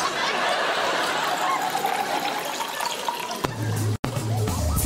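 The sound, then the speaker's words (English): Tea is poured down a sink in a steady, rushing splash for several seconds, then the pouring gives way to a low, droning hum that briefly cuts out before resuming. “Pour it down the sink, let me show you how to make it.”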